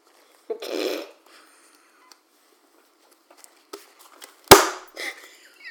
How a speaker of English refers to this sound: Easy with the thumping on the table.